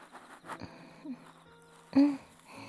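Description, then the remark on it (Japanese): Soft, close breathing right by the ear during ear cleaning: a couple of quiet, airy breaths, the second one louder and fuller, with faint hush in between. “息遣いだけじゃなくって、ゆかりちゃんの口が開いたり閉じたりする音とか水音とかね、そういうのも全部聞こえて落ち着くんだ。”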